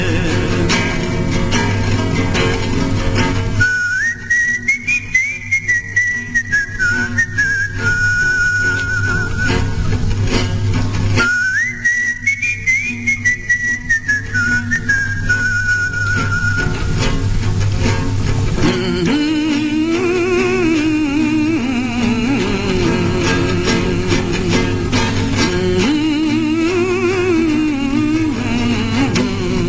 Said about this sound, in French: Sifflé vers la fin, et je crois me souvenir que c'était utilisé lors de certaines émissions de radio, parce que déjà c'était la musique était un signe de ralliement, et les brouilleurs de radio ne pouvaient pas couvrir le sifflet, justement.